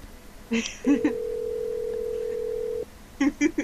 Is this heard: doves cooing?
no